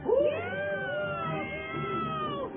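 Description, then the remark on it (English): A voice imitates an owl attacking a cat with one continuous, wavering yowl that rises and bends in pitch, loud, lasting a couple of seconds with no other sounds. “An owl attacking a cat.”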